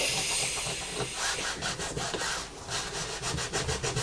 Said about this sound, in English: Sorry, I'm scrubbing that and it's making a noise, but we need to get it off the table, don't we?